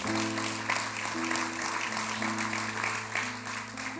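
A crowd claps steadily, a dense wash of hand claps holding at an even level for several seconds, with a low sustained musical tone humming underneath.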